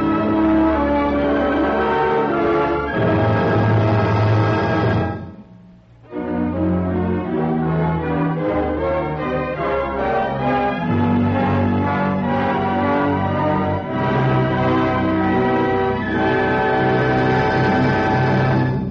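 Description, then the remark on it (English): A full orchestra, the augmented Magic Key Orchestra conducted by Frank Black, plays the Carillon from Bizet's L'Arlésienne suite, with bell-like orchestral bell tones ringing over sustained strings and a steady, repeating figure. The music is loud and continuous, dipping into a brief pause partway through. “Carillon, from Bizet's L'Alésienne suite, fills the air with the mellow tones of orchestral bells as Frank Black conducts the augmented Magic Key Orchestra.”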